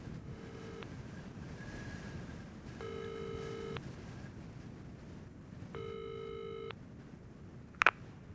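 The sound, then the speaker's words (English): A phone ringback tone purrs in three evenly spaced rings, each about a second long, over a low rumbling background, followed by a brief click as the call connects. The call is placed by entering a saved number into a borrowed mobile phone. “Then she took Yuri's phone and entered it.”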